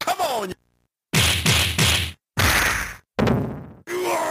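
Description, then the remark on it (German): Beat-'em-up video game punch hit samples: a rapid series of loud, meaty thwacks and crunchy impacts in short bursts with brief silent gaps, mixed with a strained vocal shout at the start. “also gerade auf der Audioebene, die Samples, sowohl die Schlagsamples, auch die Schreie sind auch von ihrer Abmischung sehr satt, sehr plastisch.”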